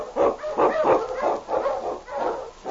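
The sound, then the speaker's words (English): Huskies, sled dogs led by the lead dog King in the Yukon in The Challenge of the Yukon, barking and yelping in a rapid, overlapping chorus of bursts, fairly loud, with a muffled, old-recording tone and no talking. “On King! On, you Huskies!”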